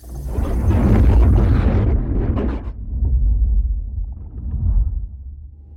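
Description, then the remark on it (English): A loud explosion in a service tube in a kitchen erupts with a broad roaring blast, then settles into a heavy low rumble that swells again briefly before fading. No one speaks. “The explosion really wrecked your kitchen.”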